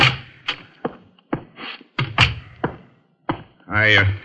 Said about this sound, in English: I'd better knock. Oh, someone else decided to knock first.